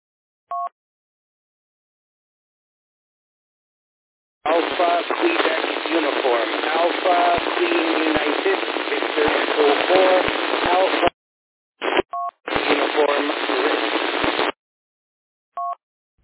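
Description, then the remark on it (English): A weak amateur radio check-in on the TransCanada Net from a mobile station not close to the repeater, nearly drowned in loud, hissing static, with a faint voice barely showing through, broken into two long bursts and framed by brief electronic beeps. “I got you this time, but there's pretty much noise onto over your transmission, so go ahead.”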